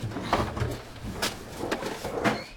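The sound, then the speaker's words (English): A door is opened with a few scraping, knocking clunks and a low rumble of movement, moderately loud, with no one speaking. “Okay, so this takes us to another door.”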